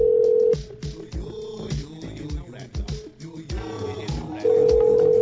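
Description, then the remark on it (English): An outgoing phone call to a guest's phone rings. A steady, loud ringback tone sounds at the start and again at the end, with a busy jumble of other sound in between. “And that, of course, is Jay Garman's phone ringing, and we're hoping he comes on here.”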